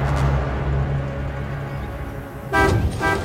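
A loud, blaring vehicle horn sounds over rumbling engine noise as a hill station bus swings past, with a second harsh honk bursting out near the end.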